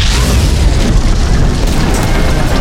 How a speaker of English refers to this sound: He was sealing the Luxon when a cannonball smashed into the forms.